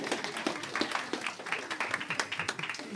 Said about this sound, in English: Very good. I think you can give yourselves a round of applause.